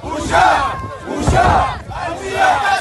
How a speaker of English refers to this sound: Hundreds of people shouting shame.